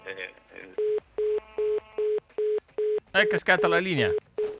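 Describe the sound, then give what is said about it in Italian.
A phone being redialed after the line to the president dropped: a steady run of about ten short, evenly spaced dialing beeps, fairly loud, with voices talking over the start and over a few of the later tones. “È cascata la linea col presidente, vediamo se riesco a riprenderlo per i saluti”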